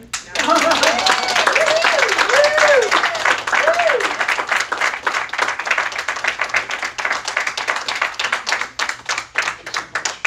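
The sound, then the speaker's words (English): Audience applause as a speaker finishes a talk: dense, steady clapping from many hands, with a few rising whoops and cheers in the first seconds, then the clapping gradually thins into scattered claps near the end. “Bravo. Another round of applause”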